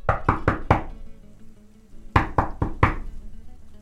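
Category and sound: impact, knocking on a door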